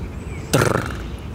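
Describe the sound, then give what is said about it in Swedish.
A great spotted woodpecker drums once: a short, rapid burst of wooden knocks lasting about a third of a second that starts sharply and fades. The surroundings are otherwise quiet, with no talking. “Där kom den. Oj, större hackspetten.”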